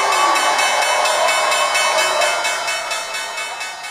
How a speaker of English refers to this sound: Or something like it. But with a very small hammer. You've been looking at the bell in the Tadawul Stock Exchange in Riyadh, and it is? It's absolutely gorgeous. It's a standalone swinging bell in an Arabic-style arch that sits on a table,